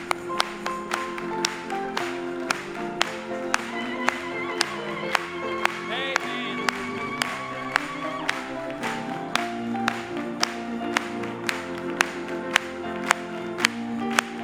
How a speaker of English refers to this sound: Let's clap it to him.